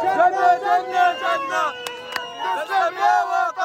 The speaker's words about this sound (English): We're cheering, honking car horns, setting off firecrackers.